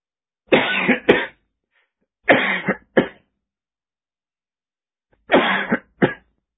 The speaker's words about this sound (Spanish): La tos me vuelve loco. La tos me pone mal. Me pasa siempre el tema de la tos cuando me atoro comiendo porque me atraganto.